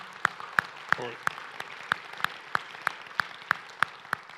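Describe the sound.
A church audience applauds after a prayer: a steady wash of clapping with sharp, evenly spaced claps standing out in a quick regular beat, and a voice briefly calling out partway through.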